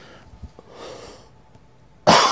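A single loud cough bursts out near the end after a couple of seconds of near silence with faint rustling, and no one is talking.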